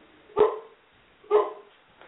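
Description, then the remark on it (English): A dog barks twice, about a second apart, each bark a short, loud, mid-pitched woof, with a fainter sound trailing at the end and no talking. “I like dogs.”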